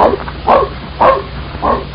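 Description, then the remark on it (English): A dog barks four times in short, sharp bursts spaced unevenly about half a second apart, fairly loud, with a faint low hum beneath and no one speaking. “I don't want that dog to go around anyone to see.”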